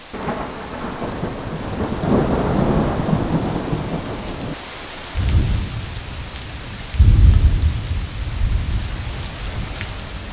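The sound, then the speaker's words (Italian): A thunderstorm breaks out and heavy rain pours steadily while deep rumbles of thunder roll in, with a strong low boom near the middle and another louder crack of thunder toward the end. No voices. “Proprio mentre si mettevano al sicuro là dentro, scoppiò un temporale e la pioggia iniziò a scrosciare.”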